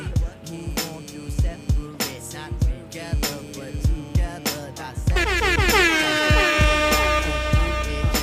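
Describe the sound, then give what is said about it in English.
A thumping beat plays, then a loud, blaring DJ-style air horn cuts in and keeps blasting for several seconds over the music, with no talking. “I know you don't like that air horn sound, but it's a very special occasion, so welcome.”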